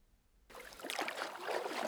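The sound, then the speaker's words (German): A quiet moment breaks into a sudden splash as a shoe drops into water, followed by steady sloshing and churning water for the rest of the moment, with no voices. “Oh nein, jetzt ist der Schuh ins Wasser gefallen.”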